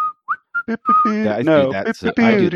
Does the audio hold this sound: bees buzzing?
no